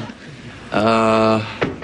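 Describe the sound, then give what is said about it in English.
A steady, droning tone holds for a moment and fades, then two sharp knocks on a door ring out in quick succession as room service arrives with coffee. “that's a knock at the door.”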